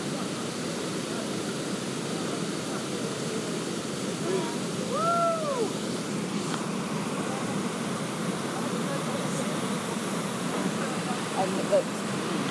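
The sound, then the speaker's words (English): A waterfall drums steadily into a pool, heard right at the bottom of the waterfall, a close, continuous rushing roar with no letup. A brief whistling call briefly rises above the water partway through. “he's got his sound recording the sound of the waterfall drumming into the water.”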